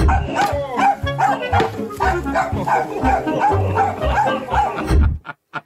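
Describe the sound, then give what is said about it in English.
A dog barks and yips repeatedly amid a busy, layered background of other sounds, including circus music. The barking is loud and cuts off abruptly near the end. “So that's it's a dog.”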